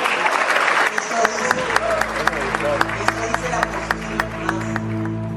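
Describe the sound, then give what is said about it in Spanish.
A crowd of young people applauds with dense, steady clapping throughout, sharp individual claps popping out above the wash, while a low hum and murmuring voices sit underneath. “Mientras los chicos aplaudían, dijo, no es que yo piense eso.”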